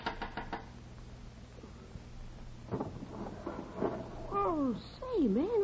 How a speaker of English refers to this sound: When I couldn't stand the silence inside my brain any longer, I got out of bed, dressed, and eased outside, and up the fire escape and knocked on Lux's window.